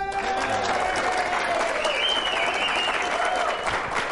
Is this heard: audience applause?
yes